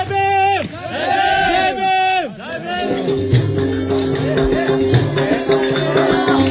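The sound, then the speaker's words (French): A lively evening festival crowd with music on the small square of a Dalit village, dimly lit by oil lamps, where villagers put on a small concert and party: loud sustained singing or chanting voices rise and fall over steady droning tones, with a busy babble of people throughout. “toute une petite foule on nous a préparé une fête, un spectacle.”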